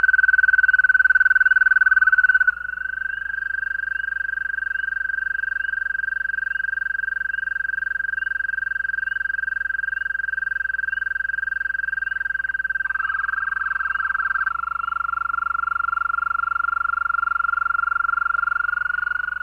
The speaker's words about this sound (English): The first example is two American toads. The first male sings a long trill, and just as he is finishing, a second male begins his trill. At the end of it, the first male begins again.